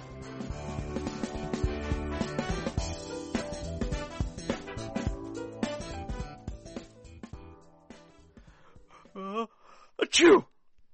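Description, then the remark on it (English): A single loud sneeze bursts out near the end, preceded by a short drawn-in breath, after a stretch of busy background music fades down. “God bless you”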